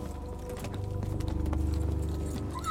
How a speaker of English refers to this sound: The Green Knight finally pulled his horse to a stop.